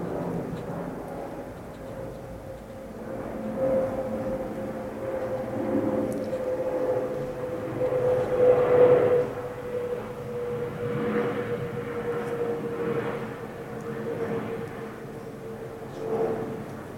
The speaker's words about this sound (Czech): Počkám, až přeletí letadlo.